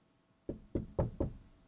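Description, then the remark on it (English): Four firm knocks on a wooden surface, evenly spaced, each a dull resonant thud with no voices around them. “Knock on wood.”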